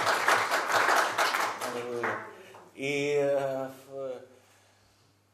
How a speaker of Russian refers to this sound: Давайте дадим ему аплодисменты. Anname talle aplaus.